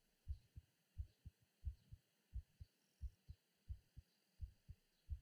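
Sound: heartbeat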